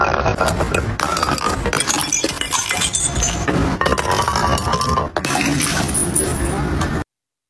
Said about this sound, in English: TikTok's latest trend is letting glass bottles roll down steps and break